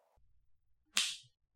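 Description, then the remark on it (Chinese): A single sharp crack of a whip being used on a stray dog snaps out near the middle, bright and sudden, then fades quickly over a low background rumble. No one speaks. “哈，这是我老公在用鞭子教训野狗呢。”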